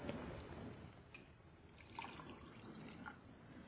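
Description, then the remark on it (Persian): Hot boiled water pours steadily into a cup for a few seconds, a soft continuous trickle with faint clinks, quiet, with no voices. “نه، یه ذره به جوش آب بهم بده.”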